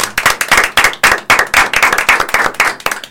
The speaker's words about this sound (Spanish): Mínimo un aplauso.